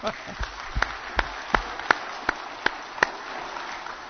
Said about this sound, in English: So I'd like to recognize the veterans here today and give them a round of applause, if you will.